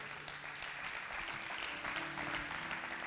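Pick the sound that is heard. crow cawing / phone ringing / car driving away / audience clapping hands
audience clapping hands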